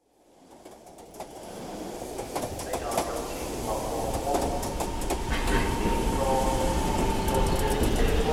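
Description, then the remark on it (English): Sounds of the train to London at a station build steadily to a loud, continuous rumble, with metallic clatter, hissing and occasional high squeals, while faint background voices and pigeon-like coos mingle in the ambience. “Is this the train to London? Yes, it is.”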